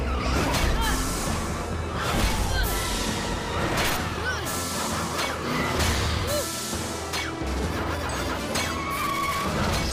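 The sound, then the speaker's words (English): An armored vehicle roars at speed down a glass track, chasing a pod-like motorcycle, with tires skidding and repeated metallic crashes and smashes, loud and dense throughout in a chaotic chase. “He rides down a glass track. An armored vehicle races after him.”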